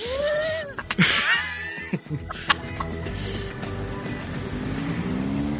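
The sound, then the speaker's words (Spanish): A motorcycle passes by on a street in Madrid, its engine whining up in pitch and then dropping away, over a steady wash of busy street and traffic noise with no one talking. “Una moto nos ha pasado.”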